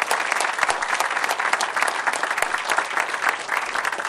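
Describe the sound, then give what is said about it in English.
A crowd applauds the soldiers of the 101st Airborne Division after a formation ceremony, many hands clapping in a dense, even patter that holds at a strong level for the full few seconds, with no voices standing out. “Give them another big round of applause if you will.”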